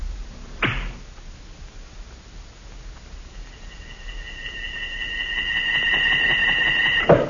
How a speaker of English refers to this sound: A gleaming arrow set against a rawhide string. A strong bow bent almost to the breaking point. And then...